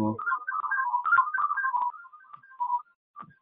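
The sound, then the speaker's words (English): A second phone's ringtone plays a quick, warbling electronic melody around one kilohertz, fairly loud, running continuously for a few seconds before cutting off, with a brief low voice at the very start. “I'm gonna have to turn that one phone off if I'm gonna make a comment.”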